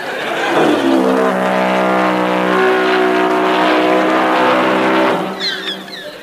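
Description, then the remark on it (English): A small scooter engine revs hard and loud for several seconds, its pitch holding high and strained as if racing, then cuts away abruptly near the end. “Anthony Hancock please stand by his scooter?”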